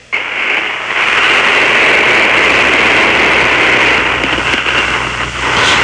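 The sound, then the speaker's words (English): A vibrator used at a Department of the Navy workplace buzzes loudly and steadily, held up to the phone during a call to radio station WAVA, for about six seconds, a harsh, unbroken motor whir with a slight wavering drone and no voices. “All right, well, let's hear the Navy's vibrator.”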